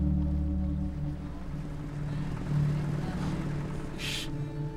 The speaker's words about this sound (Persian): هی قایق رو سریتر برو. سریتر سریتر بریم اونجا. سریتر هم برمیگردی.